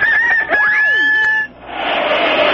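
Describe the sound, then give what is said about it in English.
A rooster crows once, loud, its call rising and falling for over a second, then a steady rushing hiss takes over until the end. “The rooster crowed and she vanished as quickly as she came.”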